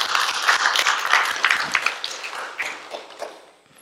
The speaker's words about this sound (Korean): 예, 오늘 세상의 모든 어머니들을 축복하고 축하합니다. 해피 마더스 데이. 우리 모든 세상의 어머니들을 위해서 우리 박수 한번 드릴까요?